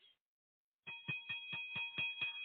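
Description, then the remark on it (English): A bell rings with rapid, evenly spaced clapper strikes over a sustained metallic ring, steady, after a brief silence; no one speaks. “Do you hear that bell?”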